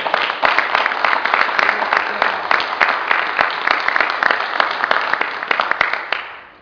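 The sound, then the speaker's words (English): A crowd at a town hall applauds steadily for the activists and workers who put together a vigil on January 1st. Dense overlapping claps hold an even, loud level for several seconds before tapering off at the end. “First, a big round of applause for all of the activists and workers and strugglers for justice that put together the vigil on January the 1st.”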